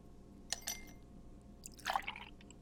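Two quick clinks of ice in a glass, followed by a short, gurgling pour of whiskey over the ice cubes, fairly quiet against a faint hum.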